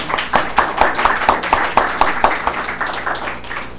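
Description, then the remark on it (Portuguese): An audience claps together in a steady patter of applause, moderately loud, with individual hand claps audible within the continuous wash of sound, applauding the third-place paper, SpiderPE, a software process support tool, at an award presentation. “Palmas, né?”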